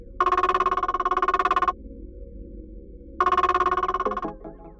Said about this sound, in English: Then Dad's phone rings.